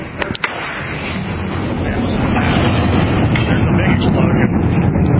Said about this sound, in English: But, yeah, here's some of the sonic booms.